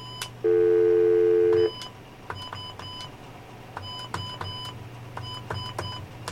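In a studio, a telephone number beginning with 9 and then 1 is dialed on a touch-tone keypad: a loud steady tone, then about a dozen short electronic beeps in quick, uneven bursts over a low background hum. No one speaks.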